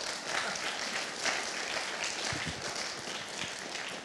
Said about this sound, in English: You can clap for him.